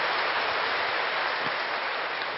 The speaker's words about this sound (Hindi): … दादी कहती हैं, हाँ बजाओ ताली दादियों के लिए।